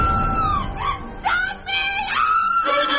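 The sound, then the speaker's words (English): A girl screams after being stung by a wasp on her stomach, in long, shrill, piercing cries that swoop up and down in pitch, loud and nearly continuous, with only brief breaks between wails. “why are you creaming? Probably because she enjoys my beautiful music.”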